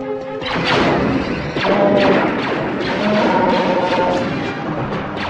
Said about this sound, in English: Close the blast doors!